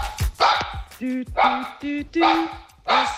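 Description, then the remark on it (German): A dog barks repeatedly and fairly loudly in the background, its bursts alternating with a person in Konstanz singing sustained notes of a short radio jingle, the two trading off in a rough back-and-forth rhythm. “Und mein Hund geht im Hintergrund mit.”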